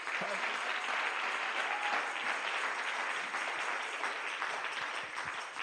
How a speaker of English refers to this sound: Give me a little more volume. Praise God. Thank you, Jesus. Y'all clap one more time.